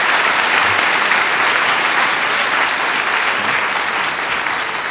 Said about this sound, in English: Okay, well, let's have a round of applause for all of the NIS award recipients.